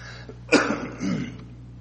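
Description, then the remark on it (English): A single sharp cough from a lingering cough of the past couple of weeks, followed by a rougher, lower throat-clearing rasp, moderately loud, with no talking over it. “And this lingering little cough the last couple of weeks, it just doesn't seem to fully go away.”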